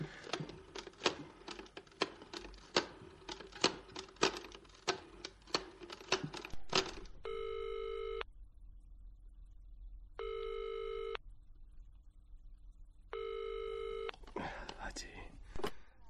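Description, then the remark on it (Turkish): A hotel's telephone being dialed: a rapid series of clicks, like a rotary or push-button phone, followed by three loud electronic rings with pauses between them, then a brief rustle as the call connects. “Affedersiniz, telefonunuzu kullanabilir miyim?”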